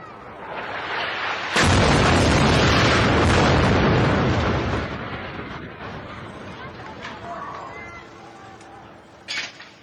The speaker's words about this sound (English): captured the explosion on video